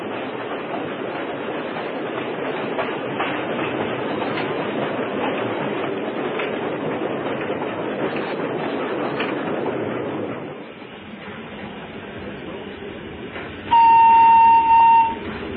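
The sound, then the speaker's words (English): An approaching train rolls along the tracks with a steady, rumbling clatter for about ten seconds, then the roar eases and a loud, steady horn blast sounds briefly near the end. No one speaks. “La barra dai noi, sta arrivando il treno! E sta venendo il treno, levatevi!”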